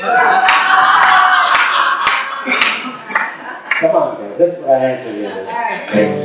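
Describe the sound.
A crowd claps and cheers loudly in a dense wash of applause for the first few seconds, then it thins out as a voice starts talking over the fading noise.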